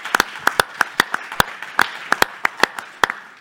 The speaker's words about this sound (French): Applaudissements pour